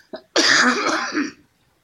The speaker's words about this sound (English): sorry, I'm just going to have to break to have a cough again. Sorry.